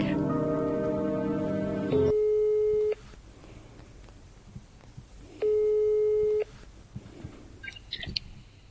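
A telephone ringback tone while calling a random phone number: two steady, buzzy one-second tones separated by a long pause, clear as if heard through the handset, with faint background noise between them.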